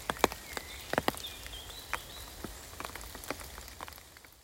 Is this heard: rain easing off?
yes